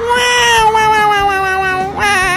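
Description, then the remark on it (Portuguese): A voice imitates a cat, giving one long, drawn-out meow whose pitch slowly sinks, then launches into a second rising meow at the end; loud, with no talking. “Thiaguinho, cara de gato. Miau, miau, miau, miau, miau.”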